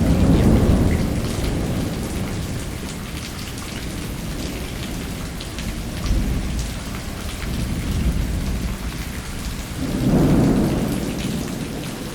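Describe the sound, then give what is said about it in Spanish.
Heavy rain pours steadily while deep rolls of thunder rumble, swelling at the start and again near the end; no voices are heard. “Desde la Vía Láctea, el dios del rayo hacía llover con agua que su hermana guardaba en una jarra.”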